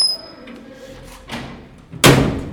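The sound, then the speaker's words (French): The heavy metal doors of Bolé prison scrape and shift as they open, then land with a loud, ringing clang near the end, with no one speaking. “Nous voilà devant la prison de Bolé. Les portes s'ouvrent.”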